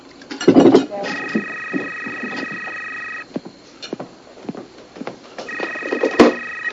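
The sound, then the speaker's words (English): A telephone rings twice, with two long, steady electronic trills separated by a pause. Brief voices and small background noises come between the rings. “No, I'll get the phone.”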